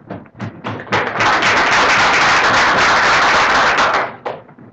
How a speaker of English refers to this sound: You need not applaud too loudly